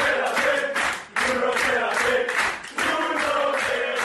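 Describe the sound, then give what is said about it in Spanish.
A group of teammates cheers and claps in the locker room of the Estadio de la Cerámica, a dense, loud wash of shouting voices and applause that drops off briefly twice before surging back. “Es el sonido de sus compañeros en el vestuario del Estadio de la Cerámica.”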